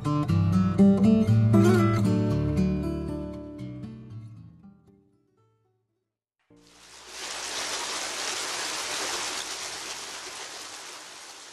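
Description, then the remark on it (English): A short musical passage fades into a brief silence, then the steady rush and splash of water from a fountain in Rome takes over, continuous and fairly loud until the end. “The constant flow of fresh water through the aqueducts and fountains of Rome has been a characteristic feature of the city since its earliest beginnings.”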